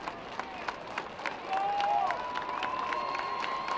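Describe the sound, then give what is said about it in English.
An opening night stadium crowd at a baseball game with Charleston batting claps in a steady rhythm over a broad murmur of cheering, with a brief high whistle-like tone rising out of the noise midway. “Opening night crowd getting involved in it.”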